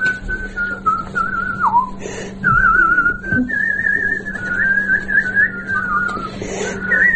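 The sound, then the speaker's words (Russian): An elderly pensioner from the Vyatka region whistles a tune, a continuous warbling melody with trills and slides, sustained for several seconds with no talking, over a faint steady low hum. “научите меня так свистеть.”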